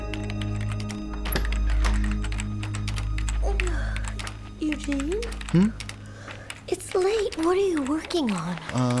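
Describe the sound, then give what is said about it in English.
Irregular clicking keystrokes on a computer keyboard run throughout, fairly crisp, over a low hum, as someone types out a list; partway through, people start talking over the typing. “I'm typing out a list of things I want to talk about with my father the next time I see him.”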